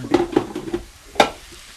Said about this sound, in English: But I just kind of get the potatoes and sort of fry them up and let them get a little soft, and then kind of mix in the other stuff, and it all kind of works out for me.